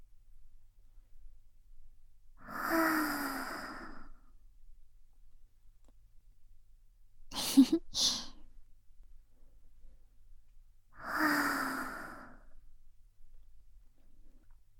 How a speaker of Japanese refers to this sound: もう一度いくよ。ゆっくり吸って。たっぷり満たしたら吐いて。